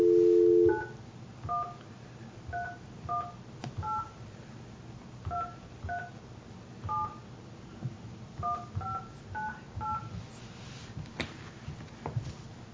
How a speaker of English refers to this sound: I'm going to make a phone call right now and see if I can get a hold of the individual.